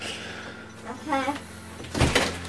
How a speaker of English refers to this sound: Go on, shut the door for me.